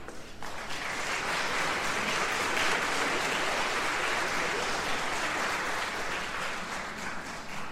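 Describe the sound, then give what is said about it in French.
A crowd at an ensemble's event in Artenay applauds the ensemble's vice-president and stage manager as they are called up, a dense wash of clapping that starts almost at once and holds at an even, fairly loud level for several seconds, with no voices standing out. “Voilà, je vous demande de les applaudir.”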